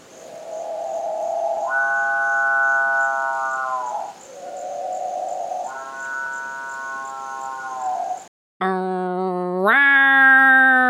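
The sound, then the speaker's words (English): A strange, growl-like call of a rainforest bird: two long, buzzy droning notes that step up and down in pitch, then a brief break and a louder, higher-pitched call. No voices. “And most people describe it as either sounding like a chainsaw or a cow mooing.”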